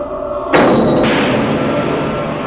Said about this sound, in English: He's pounding on the steel bulkhead above it. The sound of his blows are reverberating through the inside of the chamber.